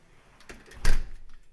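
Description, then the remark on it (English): A large steel front door of a house, the main door behind a storm door, swings shut with a single solid thud and brief rattle, preceded by a soft creak of movement; no one speaks. “And will now shut.”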